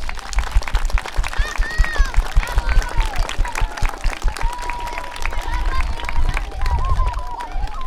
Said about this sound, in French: et à toute l'équipe enseignement qui vous a préparé ces journées, et on peut les remercier et les applaudir.